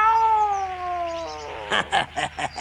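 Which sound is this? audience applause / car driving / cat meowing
cat meowing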